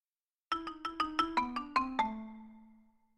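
A school bell rings in a quick, even run of about eight bright metallic strikes, then its tone hangs and slowly fades away. No one speaks.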